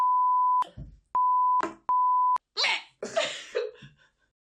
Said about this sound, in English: Since we're beeping over when I mess up now, I'm just gonna mess up all the time just to annoy you when you edit later.